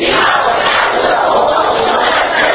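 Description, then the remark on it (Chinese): An audience applauds loudly and steadily in victory applause meant to drive away the enemy, a dense roar of many hands clapping with crowd noise and shouting mixed in, keeping up without a break for the whole stretch. “大声掌声，对，掌声把仇敌赶走，这夸胜，这是夸胜的掌声”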